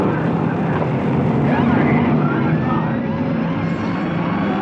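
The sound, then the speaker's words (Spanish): A heavy truck and Dr. Kiro's car rumble loudly as they drive off, their engines forming a dense, continuous roar, with faint wavering siren-like tones rising and falling in the background. “El pesado camión arrancó y el auto del Dr.”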